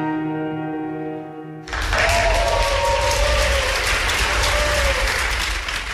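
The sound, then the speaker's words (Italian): A sustained musical chord ends abruptly and loud, dense applause erupts, many hands clapping steadily for several seconds with a few faint voices rising in the crowd. “Bellissimo l'applauso finale.”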